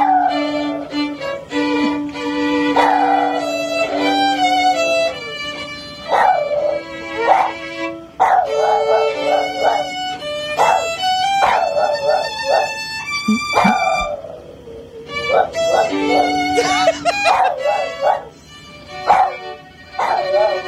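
A Boston Terrier howls and yowls in wavering, high-pitched bursts along with its owner playing the national anthem on the violin. The two keep going together for about twenty seconds, loud and continuous, with no talking.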